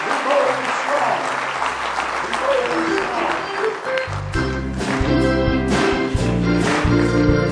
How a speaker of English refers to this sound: Give him one more big hand clap of praise, if you will.